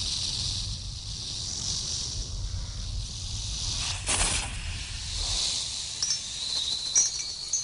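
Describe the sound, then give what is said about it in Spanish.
A steady, sharp snake hiss runs continuously, swelling in a brief louder burst midway, with a low rumbling undertone beneath; no one speaks. “¡Serpiente!”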